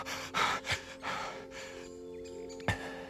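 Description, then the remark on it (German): Heavy, breathless panting from a man who has run back to a moonlit clearing at night, a few ragged gasping breaths in quick succession that trail off, then one sharp intake near the end over a faint steady hum. “Völlig außer Atem gelangt er an die vom Mondlicht beschienene Lichtung, auf der er aus einiger Entfernung etwas am Boden liegen sieht.”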